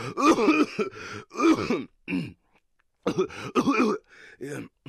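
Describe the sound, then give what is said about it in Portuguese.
Someone coughs and clears their throat in a run of rough, voiced bursts, pausing briefly midway before several more hacking coughs follow; a cough that has lasted a week. “É só uma tosse. Já durou uma semana.”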